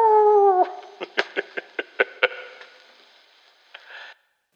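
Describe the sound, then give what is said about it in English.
A dog gives a short, drawn-out howl that slides downward in pitch, followed by a quick run of sharp yelps and a brief fainter cry, with no talking. “Well, we had a couple of light moments on our set as well, where one of the kids was going to let the dog out to join us.”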